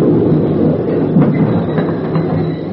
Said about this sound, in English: As the train moved into the station, I rolled and pinned myself tight onto the concrete ledge as the wheels came to a stop, now 3 inches from my face.